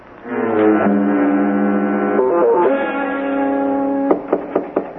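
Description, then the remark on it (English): A long, droning horn-like musical tone plays, then near the end a guard knocks about five sharp, evenly spaced times on the ordinary door of a jail room at the back of a police station before coming in to see the prisoner, over the tone's fading tail. “I've never heard of a jail where the guard knocks before coming in to see the prisoner.”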